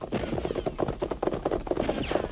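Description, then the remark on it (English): Horse hooves gallop in a fast, steady drumming rhythm, fairly loud, with dense overlapping beats and no voices. “Well, his horse can't run no farther than ours, that's since...”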